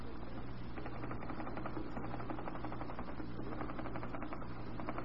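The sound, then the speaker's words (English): A fast, unbroken burst of typewriter keystrokes clatters along for several seconds, steady, over a low background hum, as a secretary demonstrates rapid typing. “There, you see? I'm rapid on the machine also.”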